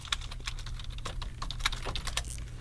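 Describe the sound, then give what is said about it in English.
Rapid typing on a computer keyboard, a steady stream of crisp key clicks with irregular rhythm over a low background hum, no voices. “Like that typing?”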